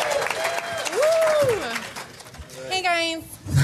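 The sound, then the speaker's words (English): A crowd claps steadily throughout while voices whoop and cheer over it, welcoming Big Brother Canada 5 houseguests onto the stage, with a long rising-and-falling shout early on and another excited cry near the end. “Let's give it up for these guys.”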